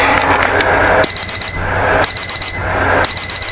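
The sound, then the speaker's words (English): An alarm clock beeps in three bursts of four quick, shrill electronic tones, repeating about once a second over a soft, steady background hum. “I glanced at the alarm clock,”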